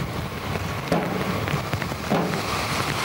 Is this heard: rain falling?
yes